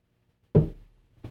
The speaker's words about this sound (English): My wife says, and it's true, I'll take a sip of water, and I'll put the cup down. I'll sip it over here so you don't hear it.